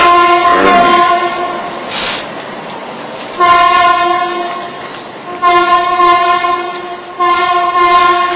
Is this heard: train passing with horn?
yes